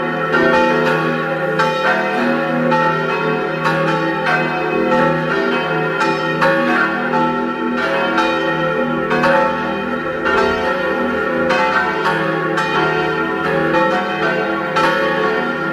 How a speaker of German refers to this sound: Es ist 12 Uhr. Sie hören die Glocken der Kirche zum heiligen Nikolaus in Eck in Vorarlberg.